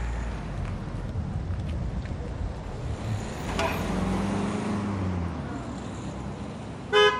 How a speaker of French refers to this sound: Le père de Maïmouna fixe Dounia. Elle baisse les yeux. Leur voiture passe devant elle.